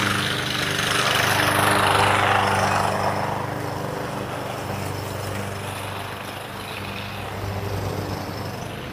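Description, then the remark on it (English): A lawnmower drones steadily outside, a continuous engine hum with a low buzzing tone that swells slightly early on, then holds at a fairly loud, even level with no voices. “keep from yelling over this lawnmower for a minute.”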